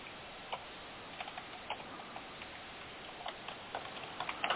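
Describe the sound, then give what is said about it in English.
Soft, irregular clicking of keys as someone types notes on a computer keyboard, a steady patter of quiet taps with brief pauses and a slightly busier burst near the end, no voices. “typing my notes here.”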